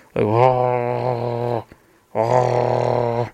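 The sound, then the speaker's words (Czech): A human voice imitates a wolf's growl in two sustained, low, harmonic-rich bursts, each over a second long, separated by a short pause. “Nebo vlci taky můžou vrčet, jo, jak jsme si říkali, vrč.”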